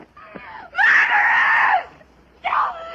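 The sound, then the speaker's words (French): A woman screams in anger in a scene where Marilyn gets angry and screams: one loud sustained shriek lasting about a second, followed by a shorter second scream after a brief pause, harsh with no talking around it. “La scène dont vous parlez où Marilyn s'énerve et hurle dans les désaccès.”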